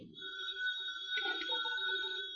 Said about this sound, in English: Now the phone. Quiet, will you? I'm going to answer you.